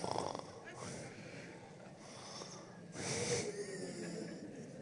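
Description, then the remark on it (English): A roomful of audience members fake snoring together, a messy overlapping chorus of rasping snorts and wheezy breaths that swells and fades in broad bursts, steady throughout. “Just kind of start snoring, everybody in the room.”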